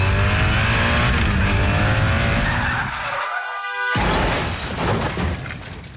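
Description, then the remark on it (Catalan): A motorcycle zigzagging between cars skids with a rising tire squeal among engine noise, then a brief silence before a loud crash and scattering debris. No one speaks. “De camí a casa amb la moto. Faré zigazagues entre els cotxes. I tindré un accident.”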